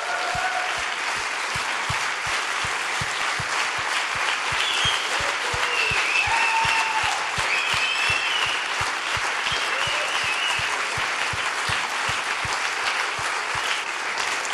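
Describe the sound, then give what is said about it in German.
Sustained applause from a sizable audience for a married couple, steady and dense clapping for the full stretch, with a few faint cheers or voices rising briefly above it. “Und jetzt könnt ihr den Applaus geben.”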